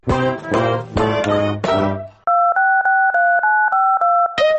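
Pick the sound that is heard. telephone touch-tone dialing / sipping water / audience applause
telephone touch-tone dialing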